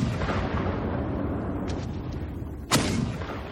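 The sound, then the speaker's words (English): Bombs and shells explode at 3:05 a.m. at dawn, tearing apart peaceful fields, in a massive, continuous roar of deep rumbling booms, with fainter cracks midway and one sharp, loud blast cutting through near the end. “At precisely 3:05, the loudest thunder ever heard bursts the bucolic calm.”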